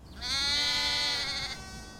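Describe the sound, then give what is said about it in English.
A single sheep bleats loudly, one long wavering call lasting over a second before trailing off, with no talking. “Nope, that's a sheep.”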